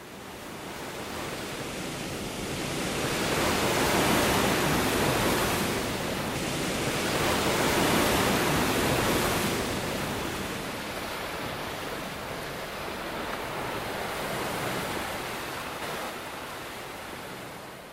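Waves wash steadily onto a sandy shore in slow, broad surges that swell and recede, a continuous hiss of surf with no voices.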